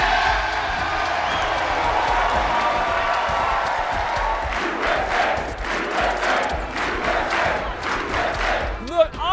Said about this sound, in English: I'd also break into applause if it meant I didn't have to spend my Saturday with Matt Gaetz.